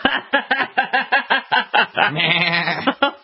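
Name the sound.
goat bleating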